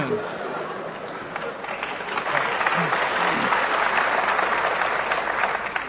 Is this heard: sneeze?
no